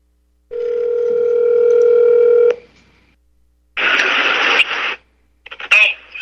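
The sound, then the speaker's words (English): A phone call played through a phone's speaker held up to a computer microphone: a steady electronic ringing tone holds for about two seconds, then a burst of harsh static-like noise and a brief muffled voice. “I'm going to call him on the phone and see if he'll answer. Maybe I can just put it up to the speaker here.”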